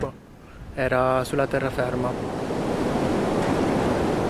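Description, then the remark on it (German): Steady surf washes powerfully onto a deserted beach beside the harbor of Torre Pali with a continuous, fairly loud roar of breaking water, and a voice speaks briefly over it near the start before the waves carry on alone. “Am Strand, neben dem Hafen von Torre Pali, rollen die Wellen kraftvoll an den menschenleeren Strand.”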